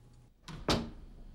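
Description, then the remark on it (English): A bedroom door swings shut with a soft creak of movement followed by a single firm thud, as Dana goes back inside her room and closes the door. “She then goes back inside her room and closes the door.”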